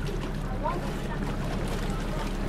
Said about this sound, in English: The boat from Picton pulls up at Motuara Island.